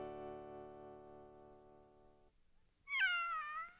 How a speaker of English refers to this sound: What's that? It's a kitty. Our cat had kittens. And out of all those kittens, Jack and Jill had chosen a pretty little gray one to bring as their gift for King Cole's birthday.